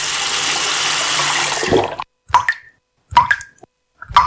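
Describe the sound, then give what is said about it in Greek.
A tap runs with a steady rushing hiss for about two seconds, then shuts off, leaving three distinct watery drips plopping at roughly one-second intervals. “Μην κάνεις πως δεν τρέχει τίποτα. Η πολιτεία ενεργεί για να δώσει μόνιμη λύση σε ένα διαχρονικό πρόβλημα. Γίνε και εσύ μέρος της λύσης. Κλείσε τη βρύση.”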